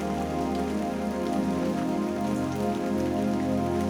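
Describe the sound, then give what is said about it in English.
Steady rain patters on a roof, a dense, continuous spray of droplets holding an even loudness throughout, with no voices present. “The pitter-patter of rain on the roof.”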